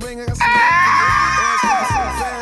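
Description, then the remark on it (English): A person lets out a loud, sustained high-pitched screech imitating an eagle's cry, wavering and trailing downward, over a low rumbling background. “One more eagle scream.”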